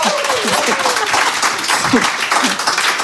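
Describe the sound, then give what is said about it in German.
An audience claps steadily in a dense, continuous wash of applause, with a few voices and cheers rising through the clapping. “Genau, kann man auch mal klatschen.”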